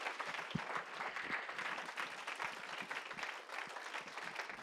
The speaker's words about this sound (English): would you give the Lord a hand clap as he comes? Amen.